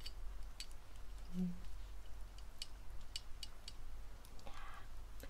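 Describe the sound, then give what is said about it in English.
Faint, intermittent scratches and light ticks of a pencil scraping against a glass jar, with a slightly longer rasping stroke near the end, quiet against a low background hum. “I think I can put a pencil against the jar.”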